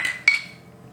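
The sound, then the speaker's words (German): A bright clink of glasses of Mai Tai cocktails touching in a toast, one sharp strike followed by a high ringing tone that fades away, with no talking. “Also Prost.”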